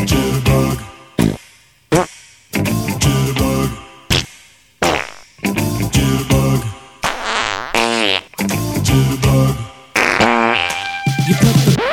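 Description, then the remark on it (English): A long string of loud, wet farting sounds in rapid bursts with short gaps between, some rising into buzzy, squeaky tones, with no talking. “Sound of farting.”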